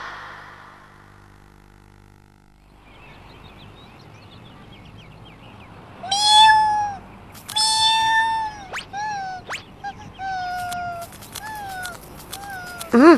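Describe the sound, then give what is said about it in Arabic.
A cat meows repeatedly and insistently, a run of loud, drawn-out cries with rising and falling pitch, following a few seconds of quiet background noise. “ايتها القطة. ايتها القطة المزعجة.”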